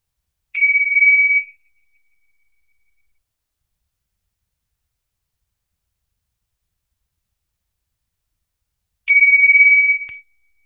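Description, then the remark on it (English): A meditation bell rings twice to end a meditation, each clear, bright tone lasting about a second, separated by roughly eight seconds of complete silence. The strikes are fairly loud, with no voices. “very gently, I'm going to bring us out of the meditation with the Bing bell ringing.”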